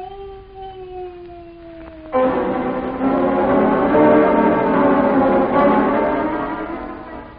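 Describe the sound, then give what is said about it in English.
A muffled, drawn-out moan of a person in pain behind a small locked door, with a slowly falling pitch, followed by a louder, denser swell of sustained tones. “Behind the little locked doorway, somebody moaning. Somebody in pain.”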